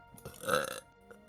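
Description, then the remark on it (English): A single short, loud burp-like croak lasting about half a second, made by a voice doing a gruff, guttural impression of the ogre Shrek, with no talking around it. “It's like a bad Shrek impression.”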